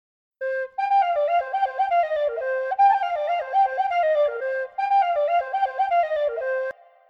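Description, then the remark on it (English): A tin whistle, a small metal flute from the British Isles, plays a lively, ornamented melody alone, with quick stepping notes and a couple of brief pauses, bright and clear. “It's a small metal flute from the British Isles.”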